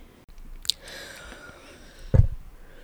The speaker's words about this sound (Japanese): はい、たまに聞こえるこのなんか深呼吸みたいな音は 咳を、ね、耐えてる 音、我慢してる音でなんか夏風邪ですね。